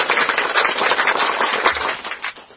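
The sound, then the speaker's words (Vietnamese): A crowd applauds steadily, many hands clapping in a dense, crackling burst that holds fairly loud for a couple of seconds before tapering off at the end. No one speaks. “Rồi, cho một tràng pháo tay vào nộp.”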